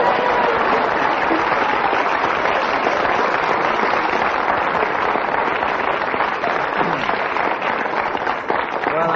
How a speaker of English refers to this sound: Well, tell our listeners that not only did the audience clap ecstatically, but also the other panelists clapped.